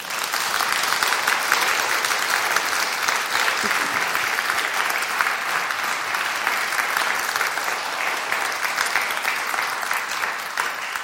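An audience at a Holy Week service applauds the choir and choir master, a dense wash of many hands clapping at an even loudness for about eleven seconds, with no talking over it.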